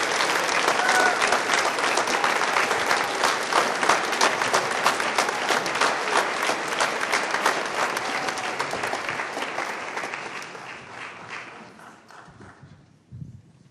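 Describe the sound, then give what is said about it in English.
Loud, dense audience applause for the seniors and their parents, many hands clapping steadily, holding strong for about ten seconds before thinning out and fading away, ending with a soft thump. “Give another round of applause for all of our seniors and their parents.”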